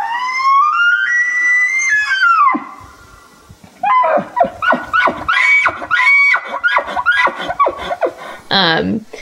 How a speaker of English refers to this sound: But it was the elk, because the elk like hang out in the campsite and they make this like bugling noise, and it kind of does sound like a haunting sort of scream.